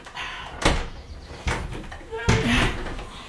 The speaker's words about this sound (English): The strong room door.